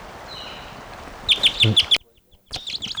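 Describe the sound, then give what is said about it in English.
A bird bursts into flight with a quick flurry of wingbeats, mixed with a rapid series of sharp, high chirps over faint background hiss. “Around, it just took off.”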